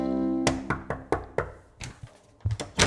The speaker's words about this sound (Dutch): Klop even aan.